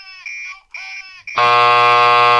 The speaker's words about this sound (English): You know, the fact that the beep sound had that like beep, that's kind of an old school thing. So I think it's older.